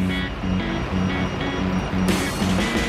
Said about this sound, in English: Morning rush hour in Manchester. But these motorists aren't just driving to work.